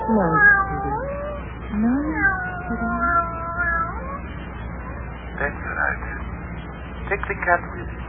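cat meowing

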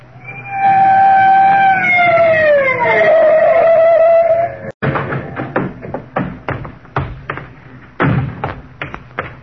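police car siren

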